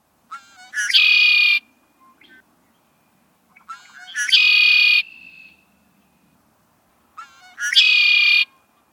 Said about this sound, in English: But our very favorite and surest sign of returning spring is the red-winged blackbird's song, as the males establish their territory.